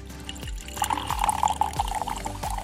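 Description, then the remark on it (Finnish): A drink is poured into a glass in a steady, splashing stream lasting a couple of seconds, with a few soft glugs along the way and no talking. “Hei, otetaan tässä välissä nyt vähän lasin täytettä.”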